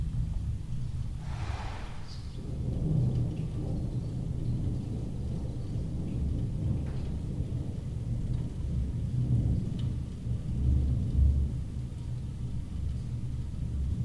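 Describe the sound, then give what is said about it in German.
A thunderstorm rumbles on, heard muffled through a closed window, with deep low thunder rolling continuously and a soft wash of rain, no voices present. “jetzt Atmo Collegra bei geschlossenem Fenster mit Gewitter treffen.”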